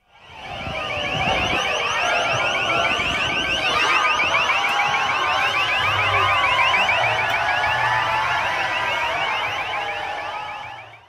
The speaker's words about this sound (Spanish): Miles de personas aprovechando el receso de primavera, el Spring Break, aterrizaron allí. Pero el desorden callejero fue tal que hubo choques con la policía, sirenas, gritos y gases.